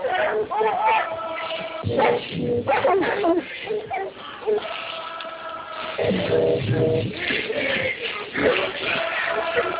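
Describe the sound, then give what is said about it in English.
Several dogs bark and bow-wow over one another in loud, overlapping bursts that continue throughout, with people's voices mixed into the noisy commotion. “Let the dogs go.”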